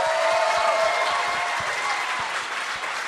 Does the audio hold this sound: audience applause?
yes